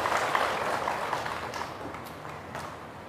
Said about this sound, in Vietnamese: Xin các quý Phật tử cho một tràng vỗ tay để bày tỏ lòng tri ân đối với lãnh đạo giáo hội tỉnh Sóc Trăng.